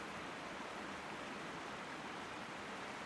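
A steady, unbroken rush of the San river flowing near the Myczkowce dam, heard while floating down the river, an even wash of hiss and murmur with no distinct splashes, heard alone at a soft, constant level throughout.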